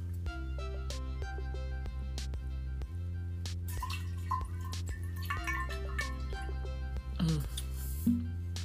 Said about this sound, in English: I'm gonna take a sip of my water, y'all. If y'all hear me drinking, drink you some water too, shit.